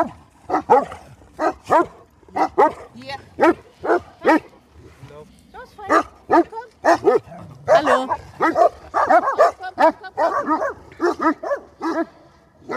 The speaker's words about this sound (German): Oh, guck mal, hier haben wir eine Begegnung. Indem man sie, hier ist jetzt ein kleiner, unangeleiter Hund.